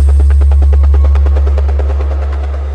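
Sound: helicopter rotor sound effect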